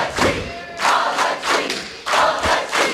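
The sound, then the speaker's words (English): A fight crowd backing the challenger in the ring roars and shouts in loud, surging waves, swelling and dipping roughly every half second, with a few dull thuds underneath. “The crowd is firmly behind”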